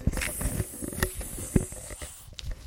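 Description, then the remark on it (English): A voice imitates a wiggly snake with a long, steady hiss that lasts a couple of seconds before trailing off. It is fairly soft, with a few faint bumps and clicks underneath. “What noise does a wiggly snake make?”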